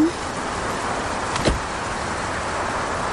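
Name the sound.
car door being closed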